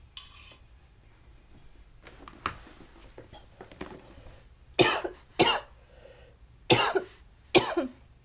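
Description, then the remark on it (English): A few seconds of quiet shuffling and faint noise give way to four harsh, loud coughs in two quick pairs from a person who has just taken a second bong hit in a row, with no talking. “That rip killed me because that was actually my second bong rip in a row”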